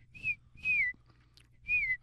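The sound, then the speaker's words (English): A person whistles an imitation of a tufted titmouse song: three clear, high whistled notes, each sliding downward in pitch, evenly spaced over a low background rumble. “As in the song of the Tufted Titmouse.”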